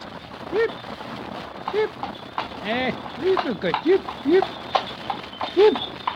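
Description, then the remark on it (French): Horse hooves clip-clop at a steady, unhurried walk, clear, as the horse pulls a two-wheeled milkman's cart, with brief voice-like tonal sounds rising over the hoofbeats. “Vous ne commentez pas, les chevaux, ça me connaît.”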